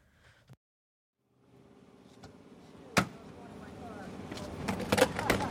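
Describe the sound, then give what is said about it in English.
Busy vehicle ambience at a gas station in Lemon Grove, California, on a hot July day with people lining up, swelling in after a quiet start: engines idling and passing, a sharp car-door thunk midway, more clunks near the end, and indistinct voices in the background. “It's a hot day in July, and people are lining up at the Food for Less gas station in Lemon Grove, California”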